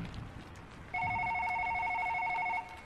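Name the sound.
telephone ringing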